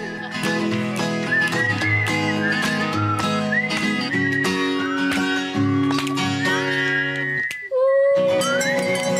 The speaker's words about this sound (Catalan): Tots xiulen i es gronxen, alguns fent petar els dits i d'altres tamborinant les mans a taula.